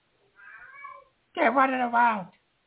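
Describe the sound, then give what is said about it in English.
A cat meows twice in the background: first a softer, thinner cry, then after a short pause a louder, longer, drawn-out wail. “Well, I'm sorry, but he's fucking crying in the background.”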